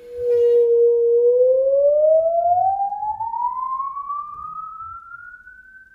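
A bowed musical saw holds a low, pure tone and then slides smoothly and steadily upward in pitch as the player only bends the saw without re-bowing, a loud, sustained, eerie whine with no talking over it.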